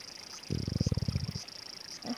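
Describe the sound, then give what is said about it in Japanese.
A stomach growls from hunger in a low, rippling rumble lasting just under a second, made of quick throbbing pulses that swell and fade, with a faint steady high hum behind it. “聞こえました？ですよね。バスの中でお菓子食べたきりだしな。”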